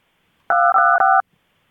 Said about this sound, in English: I'm going to have to hit touch tones at you.